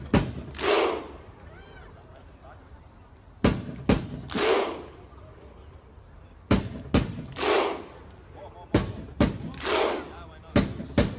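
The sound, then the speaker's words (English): A Viking thunder clap as done when the Icelandic team plays at the World Cup: loud, sharp crowd claps in slow, spaced beats, each answered by a deep, drawn-out group shout, the pattern repeating several times, starting slow and getting louder and faster. “They do this Viking clap. It starts off slow and gets louder and faster.”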